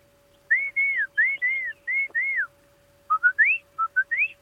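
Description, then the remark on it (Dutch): A person whistles an imitation of a song thrush, which repeats each phrase three times: a run of repeated arched notes, then a pause and a quicker series of short rising whistles, clear with no talking. “Maar een zanglijster doet altijd van...”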